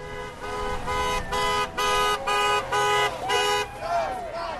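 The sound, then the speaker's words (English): Car horns honk repeatedly from passing traffic as drivers go by Scott Brown campaign supporters holding up signs, about six loud, steady-pitched blasts in a choppy rhythm, over a low background murmur of crowd noise. “I'm here with Scott Brown supporters holding up signs, and I am hearing a lot of horns being blown and a lot of people holding their thumbs up as they're driving by.”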